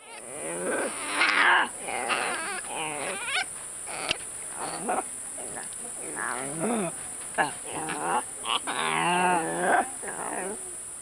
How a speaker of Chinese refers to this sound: 猿猴的叫声啊，又像婴儿的叫声，婴儿的哭声，所以古人会把猿猴，形容成这个离别送别的一种感伤。那我们来听听看猿猴它的哭叫声是什么。